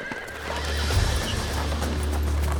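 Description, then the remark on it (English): A horse whinnies over steady clip-clopping hooves, with a low rumbling wind or movement underneath, continuing throughout without any talking; horse-drawn sleighs on their way to rescue children from the schools in a storm. “Luckily, a group of men from the town had organized a procession of horse-drawn sleighs to rescue children from the schools.”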